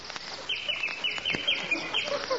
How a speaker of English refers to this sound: The sky is clear and the bird sings.